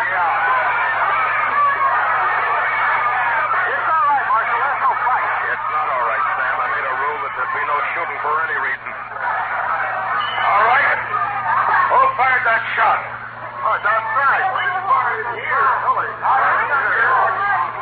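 Crowd chatter inside the Texas Trail saloon at night: many overlapping voices blend into a steady, dense murmur with no single speaker standing out, holding at an even loudness throughout over a faint low hum.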